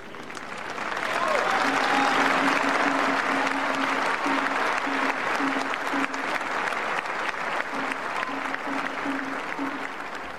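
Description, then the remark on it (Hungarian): Sustained applause from a large crowd at a papal audience, thanking the Holy Father for his teaching and blessing, dense and steady after a quick swell, with faint voices and a low hum beneath the clapping throughout. “A mai napon is tapssal köszönik meg a Szent Atyának a tanítását és az ő áldását.”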